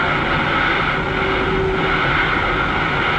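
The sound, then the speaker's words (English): Two steam switch engines switching near the big roundhouse hump just south of Rollins, Wyoming, produce a steady, dense rumbling roar with a faint whistling tone running through it, holding level and loud for the whole stretch, with no voices. “You are listening to the sound of two steam switch engines switching near the big roundhouse hump just south of Rollins, Wyoming.”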